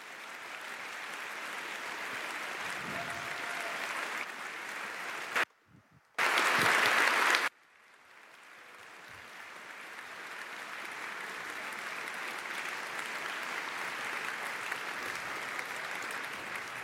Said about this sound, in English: So please clap a lot if you have liked this talk. Thank you.